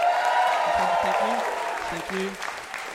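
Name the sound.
audience applause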